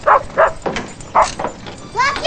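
animal, dog barking

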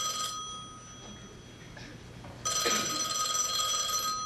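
household object, telephone bell ringing

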